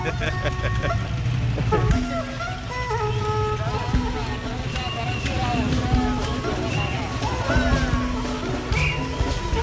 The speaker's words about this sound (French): Le grand bal des motos là. Oui.